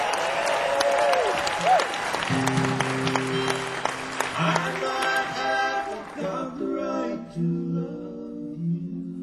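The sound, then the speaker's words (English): A crowd claps and cheers in a dense, steady burst of applause for a group from Washington, D.C. Sustained musical notes enter after a couple of seconds, and the clapping gradually thins out beneath them. “Let's give it up.”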